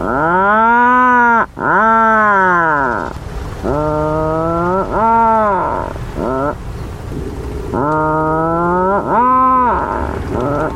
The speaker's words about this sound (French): Les macareux émettent généralement à travers le sol des grognements bruyants évoquant le bruit étouffé d'une scie à chaîne.